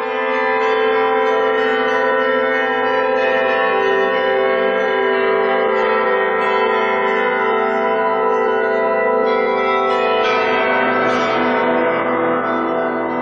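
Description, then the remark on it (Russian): Church bells rung by Alexander Zhikharev, bell ringer of the Kolomenskoye museum, ring loudly and continuously, their overlapping tones blending into a dense, shimmering wash, with a few brighter strikes standing out near the end. No one speaks. “Александра Жихарева, звонаря музея Коломенское, колокольного мастера, изобретателя, записала Тамара Левенкова.”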